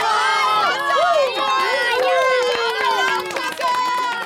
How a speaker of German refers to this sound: Alles jubelt und klatscht und die Kinder tanzen im Kreis herum.